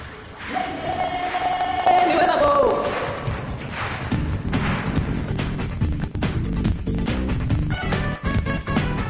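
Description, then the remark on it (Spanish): A large crowd applauds and cheers loudly and continuously, with shouts and a rising whoop early on, the dense clapping filling the whole stretch without a break. “Si pueden aplaudir, por favor.”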